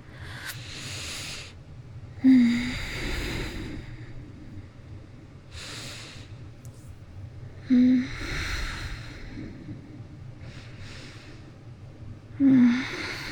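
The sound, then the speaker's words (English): Slow, steady breathing of a person asleep in the dark, with soft airy inhales and exhales repeating every few seconds, quiet and unhurried, with no talking over a faint low hum. “You can hear me just breathing in the dark.”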